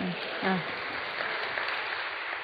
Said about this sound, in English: We have so little time. Feeble applause. That was feeble applause. All right, let's give the woman robust applause.